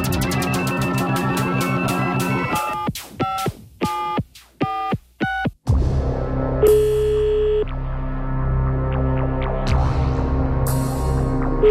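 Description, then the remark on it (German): A busy electronic tone pattern gives way to a quick, evenly spaced run of short telephone-style tones, then a steady line hum with another tone, as a radio show's outgoing call to a listener rings through. No one speaks. “Genau, so melden Sie sich, wenn das Telefon klingelt.”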